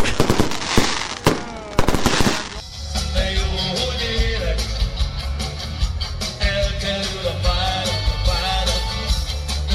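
Fireworks crackle and pop in dense bursts for the first few seconds, then settle into a continuous, loud rumbling roar with scattered bangs.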